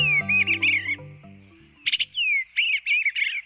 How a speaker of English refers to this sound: If the cheerful melody of the eastern bluebird doesn't bring a smile to your face, perhaps its striking color and skillful acrobatics will brighten your day.